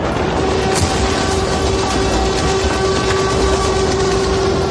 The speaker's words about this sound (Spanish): De fondo suenan las alarmas antiaéreas que han seguido sonando toda la noche